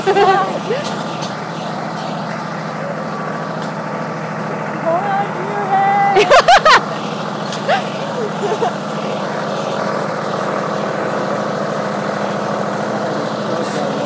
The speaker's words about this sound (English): I remember hearing this tractor when we were in the corn maze. Yeah, I heard it too.